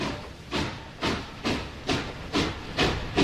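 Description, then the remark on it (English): A steam train chugs along in steady, rhythmic hissing chuffs, about seven bursts at an even pace, growing slightly louder and more forceful toward the end. No voices are heard. “You can do that with a train building.”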